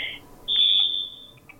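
A telephone rings with a shrill, steady electronic tone: a short burst at the start, then a longer sustained ring, trailing off into a couple of faint chirps. No one speaks.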